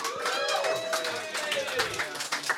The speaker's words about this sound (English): I am the only judge, and when you agree with my decision, I would like for you guys to cheer. Give that a shot right now.